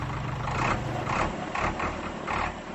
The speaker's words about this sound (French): Un tracteur de couleur rouge combiné des lames de charrue pour le labour. Le machiniste, par sa démonstration technique, se dit capable de cultiver 1 à 10 hectares par jour.